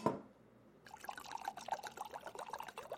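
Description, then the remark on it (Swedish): A brief glassy clink, then a steady gurgling pour of chilled white wine from a bottle into a wine glass that runs on for a couple of seconds, fairly quiet, with no talking; at home in the kitchen. “Häller upp vinet i glaset och tömmer det med några snabba klunkar.”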